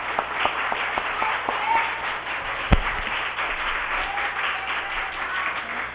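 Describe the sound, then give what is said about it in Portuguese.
A crowd at a demonstration for work opportunities applauds steadily for several seconds, a dense patter of many hands clapping at even loudness, with one sharper thump midway. “Parabéns, vocês têm que me assar de palmas.”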